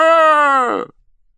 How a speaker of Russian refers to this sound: Слышен собачий виск. Очумелов глядит в сторону и видит. Из дровяного склада купца Пичугина, прыгая на трех ногах и оглядываясь, бежит собака.